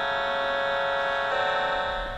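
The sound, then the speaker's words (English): A phone ringtone plays Sibelius's Finlandia as a slow, solemn melody in sustained, buzzy electronic tones, shifting to a new note partway through, steady and fairly loud with no voices. “I think Finlandia, which is probably one of the most pieces of Sibelius, is on very many Finns' phone as one of the ringing tones.”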